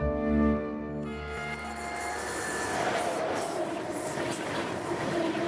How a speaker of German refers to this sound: Mit dem Zug.